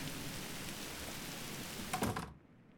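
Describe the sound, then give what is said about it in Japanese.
A dense, steady roar of heavy rain fills the scene, loud, with a brief louder rattle before the sound abruptly cuts off to near silence at the end. “すごい雨だったね。”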